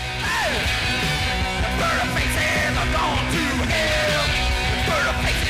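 Raw, distorted rock music plays loud and dense throughout, with a strained, yelling male voice wailing over crashing guitars and pounding drums.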